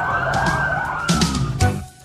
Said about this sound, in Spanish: Así que ya lo sabes, si siente el sonido de sirenas de bomberos es por esta caravana, ¿no?, que están realizando relacionada con la Navidad.